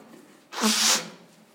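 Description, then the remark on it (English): A single sharp sneeze from a speaker during a sermon bursts out, a quick explosive rush of breath with a voiced edge, then fades into quiet. “Got a bit of a sneeze this morning.”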